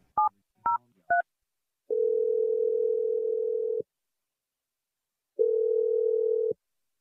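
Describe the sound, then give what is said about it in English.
Three quick keypad beeps as a phone number is dialed for a call on the radio show Brooke and Jeffrey in the Morning, then a steady telephone tone that holds for about two seconds, pauses, and sounds again, clear with no one speaking. “Let's dial the phone number, and hopefully he picks up.”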